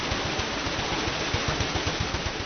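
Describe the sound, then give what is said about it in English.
A turning water wheel at a corn mill: a steady wash of rushing, splashing water over a rapid, regular low thumping rhythm, fairly loud and even throughout, with no voices. “The heart of the mill, of course, is the water wheel, noisy and powerful.”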